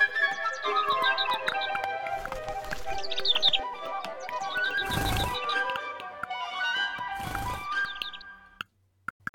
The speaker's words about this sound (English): Dear birds, did you find all the seeds? At last, we haven't got them. There's one or two that we can't get. Our beaks can't touch the bottom. Keep going, little birds.